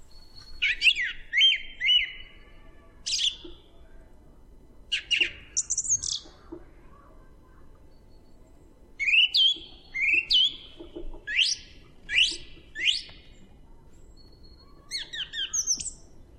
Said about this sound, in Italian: Ma al primo chiarore il tordo canta allegro la sua canzone.